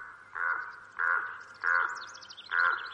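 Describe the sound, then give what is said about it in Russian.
A raven calls four times in a steady rhythm, each croak harsh and fairly loud, with brief pauses between. Faint chirping from other birds sounds in the background. “Вдруг подал голос ворон.”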